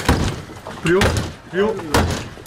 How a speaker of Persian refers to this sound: برخی اما نمی‌خواستند از آنجا بیرون بروند و پلیس ناگزیر شد در اتاقشان را بشکند.